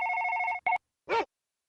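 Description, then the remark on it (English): A telephone heard over a phone call rings with a steady warbling trill, cuts off, gives a brief second burst, then a short buzzy tone follows after a pause, loud with no voices. “Oh, that's kind of loud over the phone, actually.”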